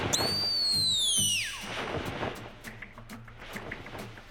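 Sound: fireworks going off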